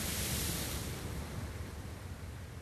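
A steady, hissing wash of surf on a shore, fairly quiet and continuous without distinct individual breakers, with a low rumbling undertone and no voices.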